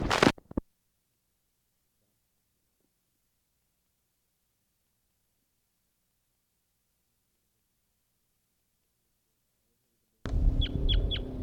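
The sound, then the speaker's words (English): After a long silence, a burst of rustling noise carries three or four quick, high-pitched chirps of wild birds in rapid succession, fairly faint against the hiss. A wild female, gathering nesting material with a piece of grass in her bill, has joined a male. “She's still got that piece of grass in her bill.”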